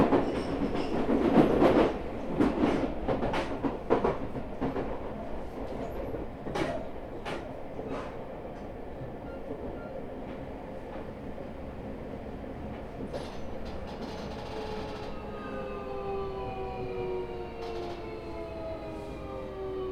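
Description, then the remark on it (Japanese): An electric train rolls along with a steady rumble and sharp wheel clacks at irregular intervals, then a rising motor whine comes in near the end as the train, terminating at Kotesashi, goes into the depot. Fairly loud, with no voices. “この電車は車庫に入ります。”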